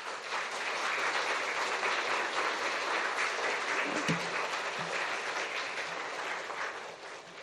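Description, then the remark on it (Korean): Sustained applause from a large audience at a church service, welcoming a retired elder pastor as he comes forward to preach; a dense, steady wash of clapping that holds at full strength for several seconds before easing slightly at the end. “그런 마음으로 큰 박수로 환영하겠습니다.”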